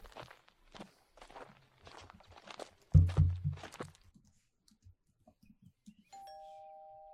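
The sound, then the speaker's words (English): Several footsteps tread across the floor with one heavy thud, then a short pause before a doorbell rings with a steady, sustained electronic chime that carries to the end; Neil Cicerega is at the door ringing it. “He's outside the door. You can't answer the door.”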